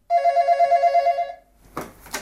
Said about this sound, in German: Und dann, zmitzt im Nuscheln, das Telefon abnehmen.